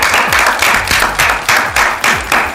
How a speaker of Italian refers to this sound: Applauso.